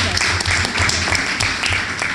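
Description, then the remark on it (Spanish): A crowd breaks into loud, steady applause for the Intendenta's birthday at a morning event with the Secretaría de Deporte, ONFI and the Intendencia. Dense overlapping claps with sharp transients fill the whole clip, with a faint murmur of voices beneath. “señora Intendenta, qué gusto estar aquí y qué gusto estar con usted en este día especial que es su cumpleaños, por lo cual empezamos con un fuerte aplauso.”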